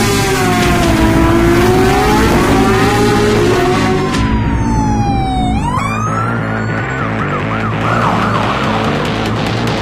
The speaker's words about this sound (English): I'm in an ambulance, one of those new autonomous models.